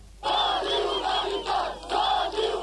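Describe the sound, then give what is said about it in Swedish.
A large crowd at a mass demonstration in Vlore, Albania, chants in unison against President Berisha, loud rhythmic shouted phrases repeating in waves of about half a second each, with a dense roar of many voices throughout. “Och i Albanien ropar folk i massdemonstrationer ned med Berisha.”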